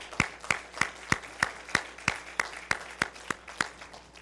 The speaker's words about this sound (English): And let's give a round of applause for that.